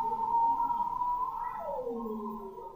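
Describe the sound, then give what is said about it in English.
A bearded seal sings underwater: a sustained, wavering tonal call that holds steady, then glides downward in a long descending sweep, clear and fairly loud with no voices present. “And then there's the bearded seals who are singing almost like sort of like pop singers, you know, they're like, it's very flighty and full of different ups and downs, and it's really quick.”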